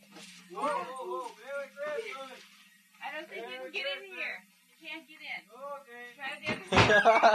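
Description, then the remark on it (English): A few loud, rapid, forceful bangs on a door at the end, after a stretch of excited talking by adults saying Santa Claus is outside trying to get in. “Santa couldn't get in that door, huh?”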